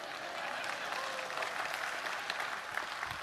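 An audience applauds steadily, a dense wash of many hands clapping at moderate volume with no pauses, sustained for a few seconds.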